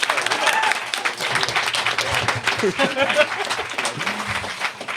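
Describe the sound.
An audience breaks into steady applause, a dense wash of many hands clapping at a fairly loud, even level for the whole stretch, with faint voices murmuring underneath.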